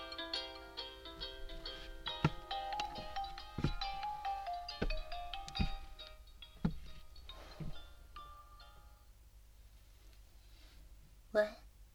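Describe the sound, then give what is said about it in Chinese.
A melodic phone ringtone of an incoming call plays steadily for about eight seconds, punctuated by a few sharp clicks, then stops, leaving quiet with one brief noise near the end. “哦，我接个电话，你等我一下哦。”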